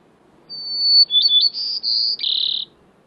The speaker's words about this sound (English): Songbirds in Yukon Charley River's National Preserve in Alaska.